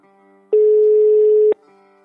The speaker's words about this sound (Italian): andiamo a chiamare … e ci facciamo dire chi è e cosa fa. Yavol, come dicono qui. Fra poco squilla, eccolo. Squilla.